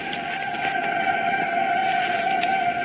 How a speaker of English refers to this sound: Can you hear those whistles? Can you hear those bells? Cincinnati is celebrating. We thought we'd let you hear what the old hometown is doing. Just listen to the noise.